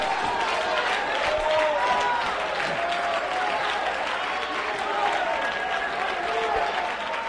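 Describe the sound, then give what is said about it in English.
An audience claps steadily and loudly for about seven seconds, a dense unbroken patter of many hands with raised voices and shouts mingling through it. “But if you're going to clap, I want you to open your mouth when you clap.”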